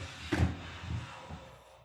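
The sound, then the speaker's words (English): A man pulls a wooden chair across a hardwood floor, its wooden legs scraping in a few short, uneven pulls, with a heavier first scrape followed by softer ones, and no voices. “He pulls the chair across the floor. Wooden legs sliding across the hardwood.”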